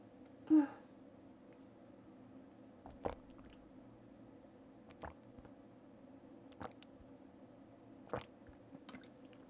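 Quiet gulps of water, several wet swallowing clicks spaced a second or two apart after a brief louder bump at the start from headphones being knocked, with no talking.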